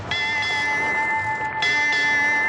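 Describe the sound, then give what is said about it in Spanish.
A ship's bell rings out clearly, struck a few times to mark the hour, with a long, bright metallic ring sustaining between strokes. It is fairly loud, with no talking. “¿Sabes qué significa ese toque de campana, por supuesto? Picar la hora, señor.”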